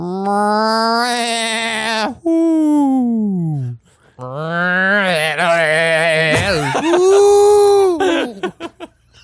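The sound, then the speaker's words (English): A person imitates an odd animal cry, a string of loud, drawn-out wails that begin cat-like, turn into bleating, wavering chatter, and end in sustained owl-like hoots that break into short bursts. “that, at the very least, got a response in the form of a lonely cry, which … said started off sounding like a house cat, then it turned into something like goat chatter before ending on something like an owl.”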